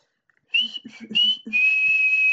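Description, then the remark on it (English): A loud human whistle by a girl calling out across a 40-acre pasture at a barn: two short rising blasts followed by a long, steady high-pitched note held to the end, with faint rustling underneath. “so she whistled again.”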